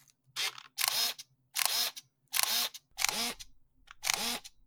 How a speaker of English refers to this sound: A Contax G1 for the listening audience. Have you ever heard this Contax shutter? No. Let me treat you to this. Okay. I'm gonna put, here we go. This is the ASMR portion of the recording.